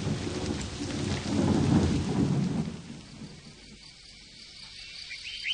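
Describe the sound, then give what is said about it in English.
Heavy rain pours steadily while a deep roll of thunder swells and rumbles in the first few seconds, then fades, leaving softer rainfall and faint insect chirps. “It can't go on forever. Oh, it will. I know it will. It'll rain forever and ever.”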